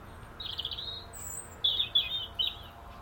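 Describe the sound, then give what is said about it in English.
Birds chirp on a morning in short, high-pitched bursts, a trilling phrase followed by a few brighter, sharper calls over a low, steady background hum. No one speaks. “As are the birds, as you can hear.”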